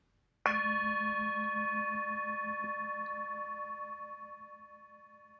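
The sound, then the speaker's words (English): A single strike of a mindfulness bell rings out alone, its low hum gently pulsing beneath bright overtones as the tone slowly fades for several seconds. “Listening to the bell, my mind calms, my body relaxes.”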